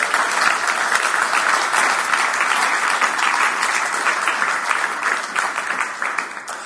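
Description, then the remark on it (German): Sustained audience applause for the technicians, moderators, musicians and entrance staff after the second morning session, a dense steady wash of many hands clapping at an even loudness for several seconds, easing slightly at the very end, with no voices over it. “aber ich möchte euch alle mal darum bitten, dass ihr mal unseren Technikern, Moderatoren und den Musikern und auch den Jungs und Mädels draußen am Eingang einmal einen herzlichen Applaus gebt für die zweite Runde.”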